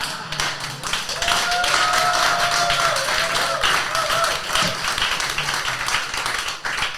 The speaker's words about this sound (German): Das war übrigens der kürzeste Applaus dieses Jahr.